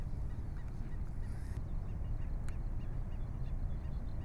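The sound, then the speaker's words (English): A black-necked stilt calls at Newport Back Bay with short, sharp yapping notes repeated, partly buried under steady outdoor wind rumble. “And the bird that's calling is the black-necked stilt, a really lovely bird.”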